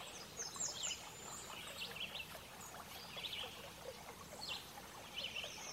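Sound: birdsong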